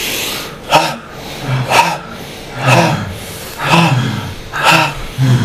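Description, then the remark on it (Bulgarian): Forceful bhastrika (bellows) breathing exercise, with sharp, noisy breaths pushed in and out at a steady pace of about one per second, continued for one more minute. The breaths are loud, and no one speaks. “Една минута още дишане, бастрика, сега.”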